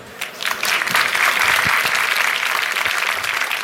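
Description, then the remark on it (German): An audience breaks into steady applause after a talk on password problems, before questions and answers, a dense crackle of many hands clapping that rises quickly and holds at a strong, even level throughout. “So, als erstes Applaus.”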